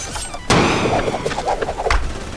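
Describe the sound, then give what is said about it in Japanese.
A video game rocket launcher fires with a sudden sharp blast, followed by a loud, sustained crackling explosion rumble that carries on for about two seconds with scattered bursts of debris. “ロケラン撃ってみようか。”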